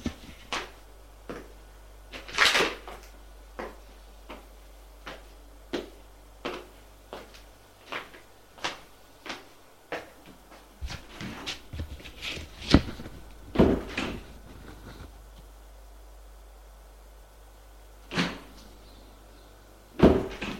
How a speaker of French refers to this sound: Elle va prendre l'ascenseur.